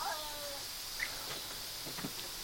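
Indoor cats yowl at a black cat outside: a faint, drawn-out cat yowl wavers downward at the start, followed by a brief high chirp and a few soft rustling thumps.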